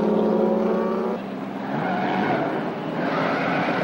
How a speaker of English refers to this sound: They gun the cars onto the track. One car bumps another. Their headlights cut through a cloud of red dust as they burn out of the stadium.